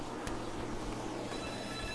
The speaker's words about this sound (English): Oh, who always calling my phone? I don't want to talk to him.